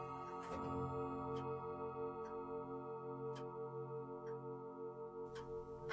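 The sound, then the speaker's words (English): A clock ticks steadily, roughly once per second, each tick a crisp click above a sustained, droning musical hum. The sound is quiet overall, with no one speaking. “The clock upbraids me with the waste of time.”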